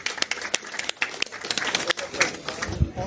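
An audience applauds a departing guest, with many sharp, irregular claps blending into a steady patter at moderate volume, with no one speaking over it.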